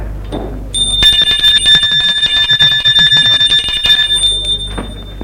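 A workshop bell rings continuously for about three seconds, a loud, shrill, rapidly clattering electric ring that cuts off abruptly, over a low steady hum.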